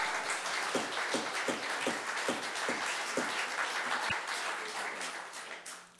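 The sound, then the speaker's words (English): A crowd at a Sussex County public hearing applauds steadily for several seconds after a speaker's testimony, a dense crackle of many hands with a few stronger, evenly spaced claps early on, tapering off slightly at the end. “No applause, no laughter, no cackle.”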